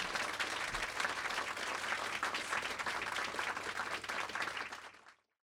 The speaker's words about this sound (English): Thank you so much. Can we give our author one more round of applause? Thank you.